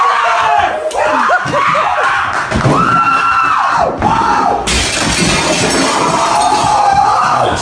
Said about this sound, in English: Nothing like that big front plate glass window and going right through it, boy.